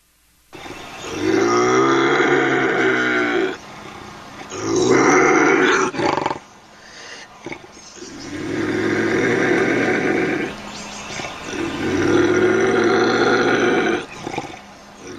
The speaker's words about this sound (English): This is a live video of a bobcat in a cage, and it's terrifying.